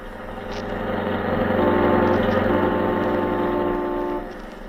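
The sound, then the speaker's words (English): A car engine hums steadily as the vehicle drives, a continuous low droning rumble that swells slightly midway and eases off near the end, with no one speaking. “Will you please stay on the outside, driver? We have to make a turn up here.”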